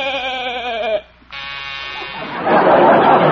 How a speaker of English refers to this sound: What was that? That's a new door buzzer, Doc.